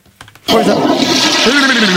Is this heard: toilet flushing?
yes